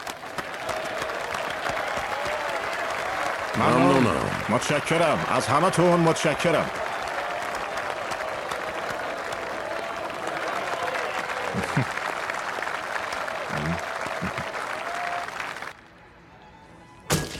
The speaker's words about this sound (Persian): خانم و آقایون، هم حزبی های جمهوری خواه نامزدهای مستعد بردمون رو تشویق کنین.